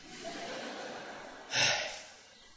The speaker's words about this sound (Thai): พอพูดเร็วเราก็หายใจไม่ทันเดี๋ยวขอหายใจก่อน